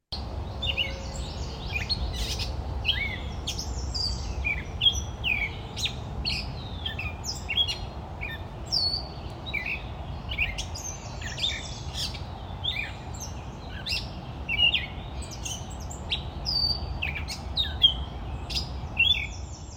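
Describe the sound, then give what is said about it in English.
A catbird at a wildlife refuge sings a long, rambling run of varied chirps, squeaks and short warbled phrases, nearly nonstop for the whole stretch, over a low outdoor rumble. “One of the pivotal moments for me, though, was when we saw a very talkative catbird, and we all just stood there listening to it talk, listening to the sounds of the bird.”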